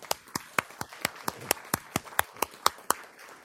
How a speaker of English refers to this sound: Well, let's give everybody a round of applause.